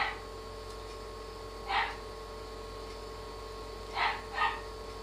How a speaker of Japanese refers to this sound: この犬はうるさいです。